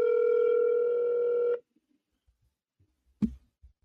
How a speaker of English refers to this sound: Oh, then that's a different ringtone than I was just getting. It's like I was just getting some English ringtone.